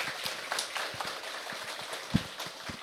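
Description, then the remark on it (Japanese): An audience applauds to thank a choir's teacher, a dense steady patter of many hands clapping at moderate volume, with a few sharper individual claps standing out, and no voices over it. “拍手をお送りください。”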